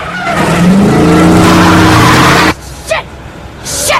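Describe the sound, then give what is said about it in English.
A big SUV's tires screech in a loud, sustained skid with a low engine roar beneath as the driver brakes, T-bones a pursuing Jeep and slews sideways across the road. The skid cuts off abruptly, followed by two brief sharp squeals and a rising rush of noise. “She hits the brake and T-bones her tormentor, slewing the big SUV sideways across the road.”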